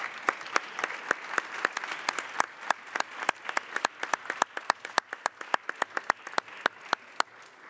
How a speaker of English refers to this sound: And maybe before we do, we could give all of us who have managed to get this far a round of applause and a bit of a cheer. So thank you all very much.